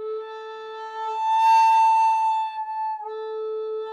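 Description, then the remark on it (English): A breathy wind instrument holds a steady A note, then jumps cleanly up to its overblown higher register with a burst of air and no two-toned distortion, sustains it, and drops back to the lower note. No talking. “You can also do an A overblow.”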